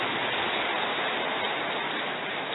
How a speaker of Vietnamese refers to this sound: Nào, hoan hỷ cho một tràng pháo tay thật to thật giòn giã lên nha.